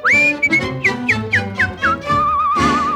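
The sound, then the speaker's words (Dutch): A bright, cheerful tune whistled over a bouncy musical backing: a held opening note, a run of short, quick notes, then a long warbling note with vibrato. “Als hij fluit, klinkt er een vrolijk lied.”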